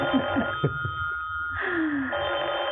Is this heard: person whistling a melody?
no